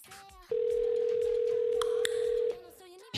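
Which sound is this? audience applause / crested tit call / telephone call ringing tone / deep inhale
telephone call ringing tone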